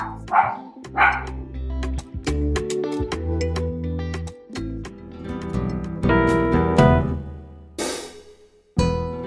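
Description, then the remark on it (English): A dog barks repeatedly in short, loud bursts, with a few higher yips mixed in. The barks come close together, with no talking. “Thank your dog for me, too.”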